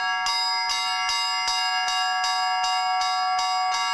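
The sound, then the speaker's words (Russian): A bright metallic bell rings in a quick, steady rhythm, about nine even strikes whose clear overtones keep humming between hits, the tone coming from the bell's rim, fairly loud with no voices. “Вот от юбочки вот этой идет звон.”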